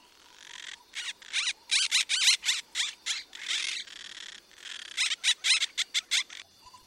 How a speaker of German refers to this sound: Oh, hört mal, so viele Vögel!